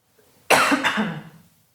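A person coughs twice in quick succession, fairly loud, the harsh bursts trailing off into a brief throaty rasp before silence.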